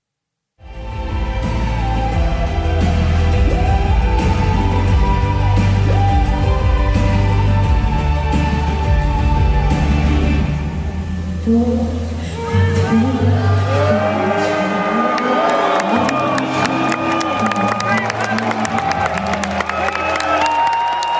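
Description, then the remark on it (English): A large crowd at the contest's full dress rehearsal in Malmö, Sweden, roars throughout, drawn-out booing and jeers mixing with a steady wash of clapping that grows sharper and more scattered in the second half. Loud and continuous, with no speech. “There was some applause, but mixed with a lot of booing as well.”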